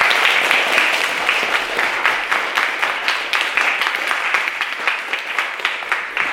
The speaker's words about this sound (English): Thank you. Second round of applause for a brilliant room.